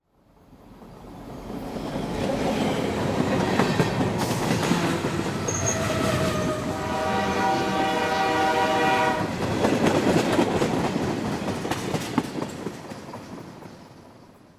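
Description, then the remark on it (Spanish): A freight train rumbles past on the rails, wheels clattering steadily, while a long horn sounds in the middle of the pass before the noise gradually fades away. “está con nosotros y acaba de bajarse de uno de los trenes que llaman La Bestia.”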